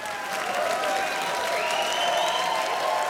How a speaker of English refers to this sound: He puts the microphone back on the stand while the audience gives him a standing ovation, clapping wildly.